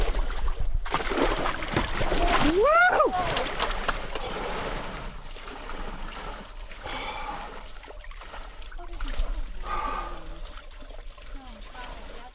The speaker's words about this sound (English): I'm not ready to take the plunge yet and climb all the way into this tub of icy water,